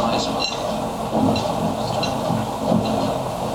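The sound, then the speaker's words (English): A glass rattles and clinks against a plate in quick, uneven bursts, riding over the steady rumble and hiss of a moving train carriage. “And it's quite loud, and I like that sound of a glass hitting a plate, vibrating against a plate on the train.”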